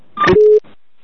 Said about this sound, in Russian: Блядь, правильно телефон набирай